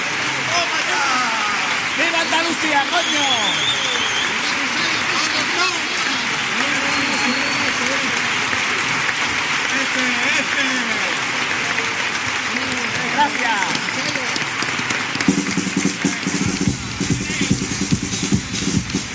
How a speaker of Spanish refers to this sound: Que bueno, lo hemos visto ahí en el centro, que ha salido para recibir ese aplauso y dejar claro que era él esa letra.